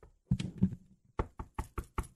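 Knocking on a door, fairly loud: a short muffled cluster of raps, a brief pause, then five sharp, evenly spaced knocks in quick succession.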